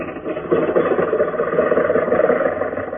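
A car engine idles in a driveway with a steady, fairly loud rumble that holds even throughout, with no talking over it.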